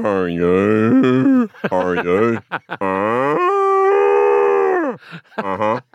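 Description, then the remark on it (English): A person's voice mimics a cow, drawing out several loud, wavering moos with a long sustained one in the middle, with no other talk. “So I went, that's the cow.”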